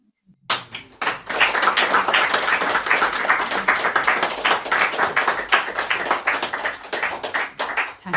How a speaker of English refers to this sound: And since I'm right here, don't feel you have to clap at everyone.